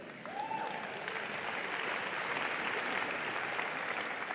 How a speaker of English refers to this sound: Now that you have agreed by clapping.